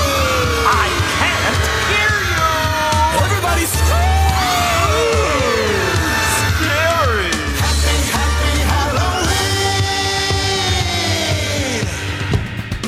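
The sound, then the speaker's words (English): A crowd of voices screams and wails together in a Halloween song over a loud, steady musical backing, the shrieks rising and falling in overlapping swoops for several seconds. “Everybody scream.”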